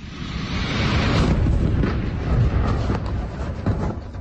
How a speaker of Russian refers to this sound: Взрыв произошел на проспекте Мохаммеда Али в Ахматовском районе, недалеко от комплекса Грозной Сити и вблизи нескольких учебных заведений и детской поликлиники. Сначала на заправке возник пожар, через некоторое время взорвалась цистерна с газом.